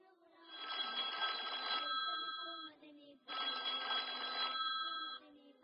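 A telephone rings twice in long, buzzing bursts, each lasting about two seconds with a short pause between, heard as the ringback tone of a phone call being placed to invite someone to go to the mosque for dawn prayer.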